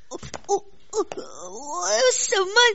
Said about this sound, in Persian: چی شده گریه میکنی؟ بازم دلتنگ ننه و ولایتت شدی؟